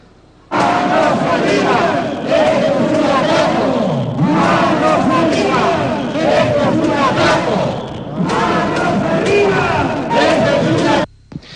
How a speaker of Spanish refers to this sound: Por cierto, hemos comentado que esta marcha ha llegado a la Diputación Foral de Álava. Vamos a escuchar el sonido de la marcha.